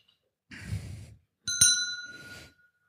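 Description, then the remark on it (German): A small bell is struck once, with a bright, clear ring that fades away over about a second. A brief rustling clatter of handling comes just before it. “Eine Glocke.”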